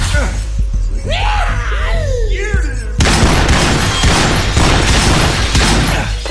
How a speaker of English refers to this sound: Shards of splintered basin and slicing lengths of broken glass had cascaded all around Ryan.